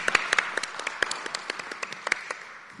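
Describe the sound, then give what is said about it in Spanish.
Scattered applause from a small group for the whole university network's work, a steady patter of overlapping claps with a few sharper hits standing out, moderately loud and gradually easing off, with no voices. “Entonces, un aplauso a toda la red, a toda la universidad por ese gran trabajo, ¿no?”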